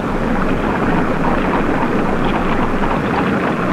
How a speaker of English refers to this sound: It's just the sound of the water. So my sister tells me, senor, but still I am afraid.